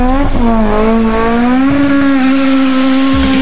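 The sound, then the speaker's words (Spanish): A race car engine revs loudly and steadily, its droning pitch dipping briefly and then climbing higher, with no one talking. “Buenas tardes por ahí para todos, ya estamos aquí una semana más de Arras Competición, ya paramos la música, nos ponemos los cascos y arrancamos los motores y salimos al tramo.”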